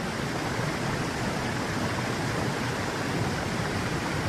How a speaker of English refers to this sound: The water is cold, but the first thing I feel is the rushing current, moving and breathing, bigger than anything I have ever known. It pulls me.